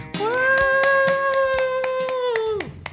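A single woman lets out a long, steady whooping cheer for herself while clapping in a quick, even rhythm, fairly loud, with the cheer cutting off just before the claps stop.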